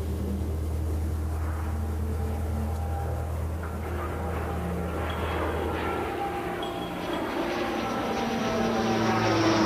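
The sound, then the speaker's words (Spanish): A propeller airplane engine drones steadily overhead, a loud continuous low hum with a throbbing tone that holds for the whole stretch, with no voices present. “Desde niño, desde siempre he pensado que los aviones son como aves, que llevan en su vientre a otras aves.”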